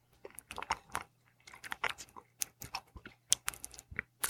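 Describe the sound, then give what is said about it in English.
Wet mouth clicks and crunchy smacking sounds made with the mouth to imitate chewing on a bottle cap, coming in irregular bursts with brief pauses, quiet, with a faint steady hum underneath. “There is no bottle cap. That was just me making mouth noises.”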